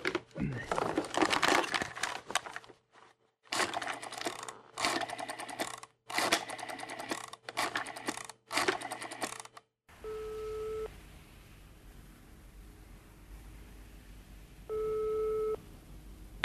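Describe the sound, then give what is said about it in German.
A telephone is dialed with a series of rattling, whirring bursts, then the line goes quiet and a ringing tone sounds twice, spaced a few seconds apart. No one speaks. “Wo ist denn jetzt schon wieder das Telefon?”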